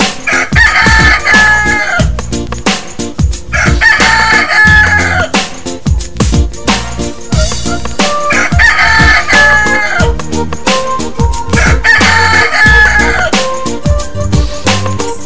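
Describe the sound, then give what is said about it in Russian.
In a game, voices imitate a rooster's crow four times at a steady pace, each loud, drawn-out cock-a-doodle-doo sung over a bouncy, busy musical backing. “Изобразить себе петуха. Не пищим, не мекаем, а громко кукарекаем.”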